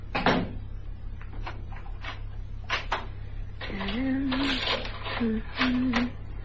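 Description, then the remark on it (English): A door closes with a thud as a man leaves, followed by a few sharp clicks and rattles as the door is locked after him. A faint voice murmurs near the end over a steady low hum. “Lock the door after me, sweet.”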